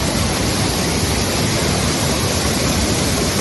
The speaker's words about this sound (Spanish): como escucha, rescata a personas en esa misma calle por las riadas habituales que se forman en su localidad